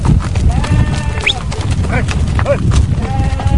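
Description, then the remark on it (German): A herd of sheep and goats, leading a trek that sets out early in the morning, moves along with scattered bleats rising over a steady, dense rumble of hooves and shuffling, continuous. “Die Vorhut bilden Schafe und Ziegen, sie sind am langsamsten.”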